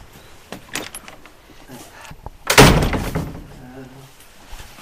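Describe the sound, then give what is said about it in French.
A door handle rattles and clicks, then a door from Syria swings shut with a single heavy thud midway through, followed by a faint latch click and soft background noise. “Pourquoi cette porte? C'est une porte qui vient de Syrie. Entrez.”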